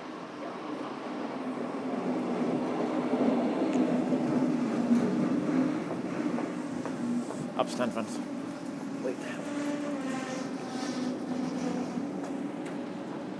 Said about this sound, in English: Right, I think we have a train coming in.